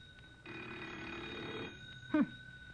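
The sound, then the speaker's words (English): A telephone bell rings in one sustained, metallic burst lasting over a second, then stops; a short vocal grunt follows in the quiet. “Maybe if we'll just be real quiet, they'll think nobody's here and quit ringing in a minute.”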